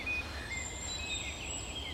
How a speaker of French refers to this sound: Quand tu écoutes bien, chaque chant a un peu son temps de parole. Donc ils respectent un peu leur paysage sonore, si tu veux. Ça ne se chevauche pas. Tu écoutes une espèce, c'est-à-dire le rouge-gorge, là.